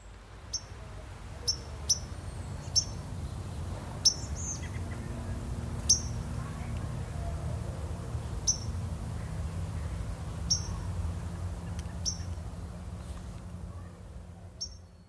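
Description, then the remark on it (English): A bird chirps loudly and repeatedly from a bush in an alleyway, sharp high notes in short bursts at a fairly steady pace, over a low rumbling background hum with no talking. “I heard in a bush while I was walking in the alleyway, this bird chirping really loudly. I thought it was above me, but I just stopped really quickly and started listening around, and then I found the bush that it was in.”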